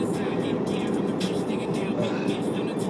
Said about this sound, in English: Nope, it's a plane looking for speeders. Who's up where? Is that really what it is? Yeah. Oh, yeah. Wow, radar. It's got a radar gun?